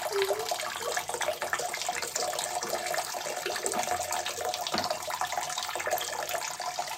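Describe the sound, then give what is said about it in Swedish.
A person urinating while standing sends a steady stream splashing continuously into toilet water, a bright, hissing trickle that holds at an even, fairly loud level throughout with no voices over it. “Det här är fan bra skval. Alltså. Du träffar ju vattnet.”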